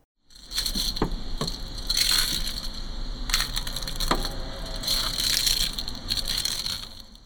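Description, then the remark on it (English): Crunching leaves run through a distorting effect: steady, crackly crushing with brighter bursts every second or two, over a thin, constant high-pitched whine. No one speaks. “I recorded the sound of leaves crunching and then added an effect to make it sound more distorted and less recognizable.”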